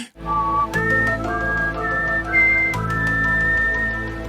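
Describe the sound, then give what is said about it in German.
A whistled rendition of the X-Files (Akte X) TV theme melody plays a slow, eerie tune: a few sustained, wavering notes that step up and hold, clear and fairly loud over a steady low hum, with no talking. “Ich wollte gerade sagen, mach mal kurz die Akte X-Melodie bitte.”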